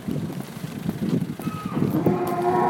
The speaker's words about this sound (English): So we've arrived in a cattle shed that's full of cattle, horses, there are calves here as well.